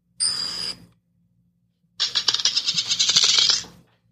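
A phone coin flip app's sound effect: a short bright metallic ring, a brief pause, then a rapid rattling run of clicks like a coin spinning down and settling. No one talks over it.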